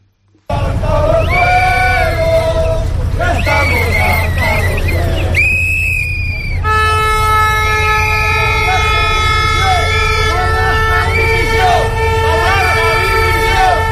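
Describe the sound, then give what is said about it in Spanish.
A loud protest crowd shouts and chants in waves against Spanish Interior Minister Grande Marlaska, demanding his resignation, while whistles shrill and air horns blare in long, steady tones over the din, with a sharp hissing burst partway through. “Precisamente para el Ministro del Interior, para Marlaska, tenían estos gritos, pedían su dimisión.”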